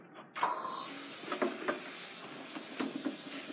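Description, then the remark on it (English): A steady hiss of dental water spray starts abruptly and runs throughout, with a few faint clicks and small bumps over the continuous spray, during dental treatment of a male patient. No one speaks. “Water is bothering him.”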